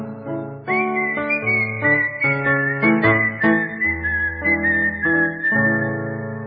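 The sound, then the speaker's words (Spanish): A person whistles a lilting tango melody in a clear, steady tone, carried over a full band accompaniment with bass and rhythmic chords, no voices singing. “Me paro en aquella esquina, cueste tanguite me pongo a chiflar.”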